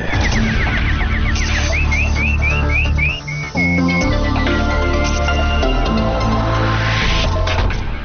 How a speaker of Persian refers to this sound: اینک مشروع خبرها با چهچهه همکارم بلبل.